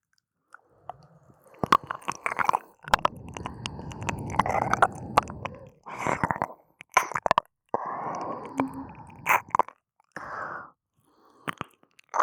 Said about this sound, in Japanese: だってまだ左耳を舐めてる途中だもんね。右耳もまだなんだもん。